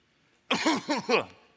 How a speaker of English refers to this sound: So I cough in my elbow, then I say, what's up? And then I cough again.